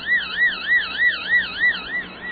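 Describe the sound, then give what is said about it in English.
A delta brainwave band rendered as sound: a steady, high, warbling tone that rises and falls about three times a second like an alarm siren, moderately loud and alone. “If we fall down into the delta”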